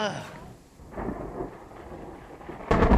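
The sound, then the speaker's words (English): A low, rumbling roll of thunder from a bolt of lightning over a steady wash of rain, swelling into a sharp, loud crack near the end. “Look at that dilapidated sign was just perfectly illuminated by that bolt of lightning.”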